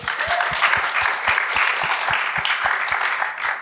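An audience applauds a participant's pitch steadily for several seconds, a dense wash of many hands clapping, with a regular low thump pulsing beneath it at an even rhythm.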